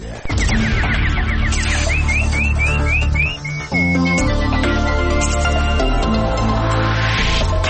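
A run of quick, rising bird-like chirps, like a nightingale warbling, plays over loud, dense background music, followed by sustained high whistling tones.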